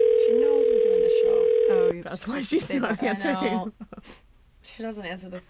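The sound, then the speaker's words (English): A loud, steady ringback tone from an outgoing phone call hums for about two seconds while people talk over it, then stops and the conversation carries on alone. “That's why she's not answering. She doesn't answer the phone”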